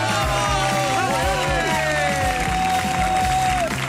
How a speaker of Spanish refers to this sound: Avui des de la Facultat de Comunicació de la Universitat Autònoma de Barcelona i el que sentim són aplaudiments del públic que us acompanya.